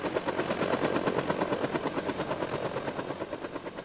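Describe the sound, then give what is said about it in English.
A Huey military helicopter, the kind used in the Vietnam War, thumps its rotor steadily and loudly while rapid bursts of gunfire rattle over it, the dense, clattering noise continuing throughout with no speech. “They would be the ones in the Huey, the ominous military chopper used in the Vietnam War. Noisy and clunky, my parents made their presence known.”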